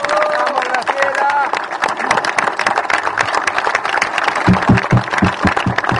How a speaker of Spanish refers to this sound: Quiero pedir un minuto de aplauso, de silencio para mi querida presidenta de la Liga Argentina, Graciela Rosenbaum. ¡Bravo!